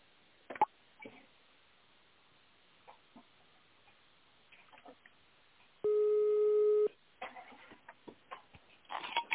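telephone ringback tone

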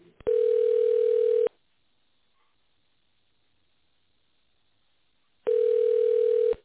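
telephone ringback tone

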